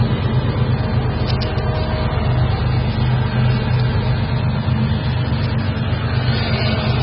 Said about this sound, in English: Got a little competition here with the train. Can you hear me? Can you still hear me? I think I'll wait a second.